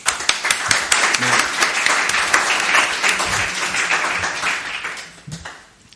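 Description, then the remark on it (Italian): An audience claps steadily for several seconds to thank a professor before his talk, a dense patter of many hands with some sharper individual claps on top, holding loud and even before tapering off at the end. “Lo ringraziamo con un applauso e parte lui.”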